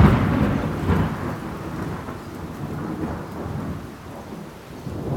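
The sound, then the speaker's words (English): A thunderstorm rumbles with deep, rolling thunder over a steady wash of rain, loud at the start and continuing as a broad, low roar throughout, with no voices. “And there is a big storm with thunder and lightning.”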